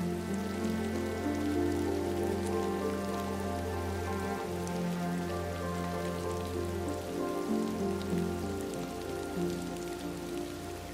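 Steady, moderate rain patters continuously, with a soft hiss and scattered droplet taps, blended with a sustained, low ambient musical drone throughout. No one speaks.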